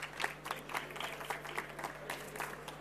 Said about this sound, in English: So give him a warm applause.